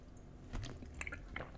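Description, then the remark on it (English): Quiet sips and wet swallowing sounds from someone drinking tap water, a few soft gulps in a row, ending with a sudden sharp knock. “Let me drink water.”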